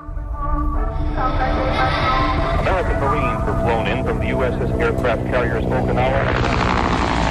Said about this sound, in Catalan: En aquest cas és una pel·lícula. Sí, l'helicòpter és d'una pel·lícula, no és ambient de l'exterior dels estudis. És ficció, en aquest cas.